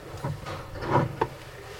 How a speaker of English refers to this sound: I'm going to turn the pulpit just a little bit here. Am I knocking something off?